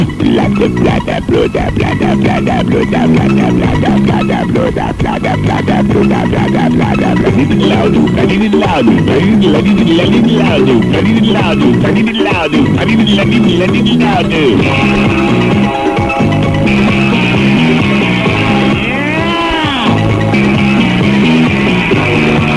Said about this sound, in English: I mean, we're talking 75 gallons an hour they take when they, when I start the engine, you can almost hear the whole Persian Gulf stand up and cheer as those big babies come to life.